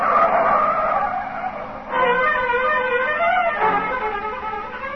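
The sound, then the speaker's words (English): A car engine roars loudly as tires squeal in sustained, wavering skids, the screech rising and falling in two long bursts with no voices present. “before you know it, you've stormed out of the house, and you're taking it out on the car.”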